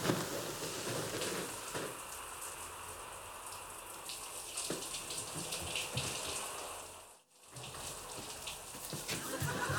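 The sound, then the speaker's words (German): Shower water runs steadily with a dense hiss and spatter, briefly cutting out for a moment near the end before resuming. No voices are heard. “Ich dusche nur kurz.”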